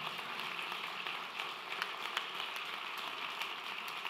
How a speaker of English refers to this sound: So let's applaud our prayer chaplains. Thank you very much.